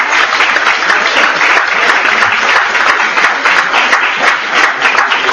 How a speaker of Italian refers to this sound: Bellissimo, devo dire un applauso a una grande scrittrice.